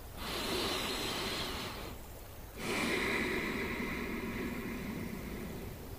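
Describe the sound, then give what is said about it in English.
A long, deep breath drawn in through the nose, a brief pause, then a slow, full exhale, fairly loud with no talking. “Take a deep breath.”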